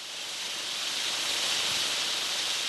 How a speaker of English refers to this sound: At the top of a brand new $12 million lift, snowmaking machines blow clouds of frozen water into the sunshine.